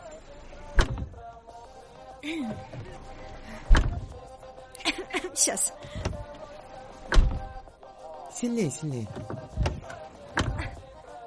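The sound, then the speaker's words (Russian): A car door is slammed shut again and again, about six heavy thuds at uneven intervals, with people talking briefly between the slams. “Закрывай дверь, поехали.”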